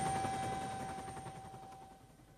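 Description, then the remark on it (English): A helicopter's rapid rotor chop beats steadily with a high whining tone over it, the noise slowly fading as the aircraft flies away after landing a team on a narrow, grassy island. No one speaks. “We're all stretched here on the grass, and the island is much narrower than we thought it was, and the helicopter is now making off again.”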